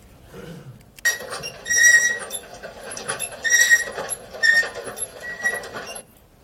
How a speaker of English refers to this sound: So, now we know how much our escalator squeaks, but what does it tell us about the health of the escalator? We don't really know, because a machine like this, it grinds, it squeaks from time to time, and it's probably okay